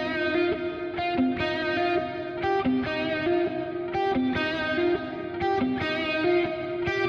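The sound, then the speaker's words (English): A heavily distorted electric guitar plays sustained, buzzing chords with a steady rhythmic pulse, through reverb with an 80 ms pre-delay that leaves a short gap before the wash, loud with no voices. “Indeed, you can hear that a little bit of attack.”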